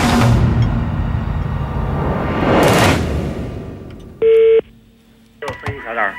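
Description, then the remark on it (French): After a loud rushing whoosh of noise, a single short electronic telephone tone beeps clearly, like a dialing keypress, followed by a brief burst of voice. “Aussi, faut-il procéder par téléphone.”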